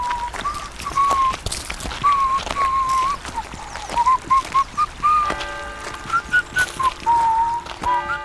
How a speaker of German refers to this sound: An einem Samstag war es besonders heiß, doch der Sen musste seine fertigen Käse zum Markt an den See herunterbringen. Er hatte sich die Käseräder auf den Rücken gebunden und wanderte fröhlich pfeifend ins Tal hinab.